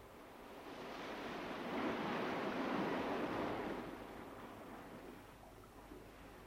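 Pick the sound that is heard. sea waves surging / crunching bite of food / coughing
sea waves surging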